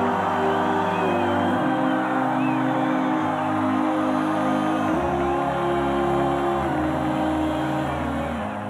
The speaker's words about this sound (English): People were shouting happily, crying. They understood immediately that they were to be allowed to go to Western Germany.